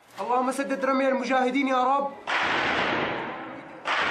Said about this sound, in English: Gunfire and prayers.